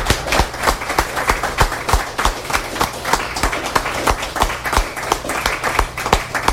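At a reading series, the audience breaks into applause for themselves and everybody else, many hands clapping in a dense, steady patter that holds at an even loudness throughout, with a few sharper individual claps standing out.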